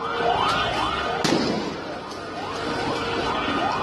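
impact, gunfire

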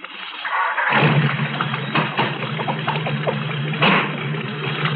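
vehicle, car engine starting

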